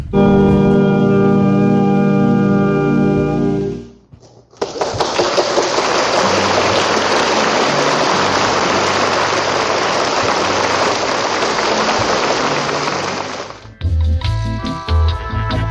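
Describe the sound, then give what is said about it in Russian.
A sustained musical chord fades out, then a concert audience breaks into dense, steady applause lasting about nine seconds at the end of a concert by the NBC Orchestra conducted by Mitropoulos, before tonal music returns. “Вот давайте послушаем эти аплодисменты после того, как они завершили свой концерт.”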